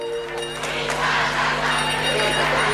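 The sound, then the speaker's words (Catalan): A loud, dense crowd of Barça fans in a stadium cheers and shouts "Visca!" together, a steady roar of many voices swelling with no pauses, as though chanting a rallying cry, with Joan Laporta jumping behind. “Dient visca, amb Joan Laporta embogit al darrere, saltant.”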